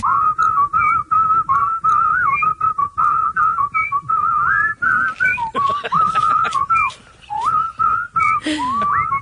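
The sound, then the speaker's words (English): A stand-up comedian whistles a familiar rock melody for a whistling album, loud, in a continuous wavering line with short breaths between phrases and a few slides and trills near the end. “This is stand-up comedian … doing a whistling album.”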